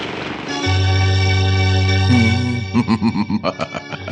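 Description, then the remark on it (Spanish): A motorboat engine drones low and steadily, growing louder as it approaches, then breaks into a quick series of rhythmic throbbing pulses, fairly loud with no talking over it. “¿Oyes? ¡Una lancha motor! ¡Viene cerca!”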